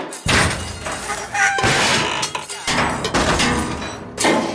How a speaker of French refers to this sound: Tu la coupes, tu la tailles, tu la plies, tu la tords à coups de marteau pour lui donner une forme de brouette.